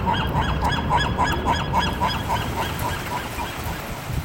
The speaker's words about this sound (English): Seagulls in Santa Barbara.